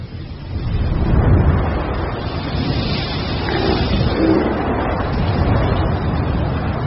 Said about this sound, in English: Sandstorms like these appear without warning and reduce visibility for days over areas the size of Britain.